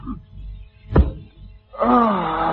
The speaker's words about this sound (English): Who's that tapping on the side door?